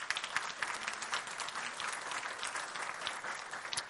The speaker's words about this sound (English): But thank you for your role in being a father. Let's give them applause. Just say thank you.